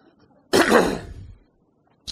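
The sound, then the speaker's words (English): A single loud, harsh cough bursts out, rasping for nearly a second before trailing off, followed by a short throaty click after a brief pause; the person coughs after swallowing a cough drop. “Swallowed my cough drop, sorry.”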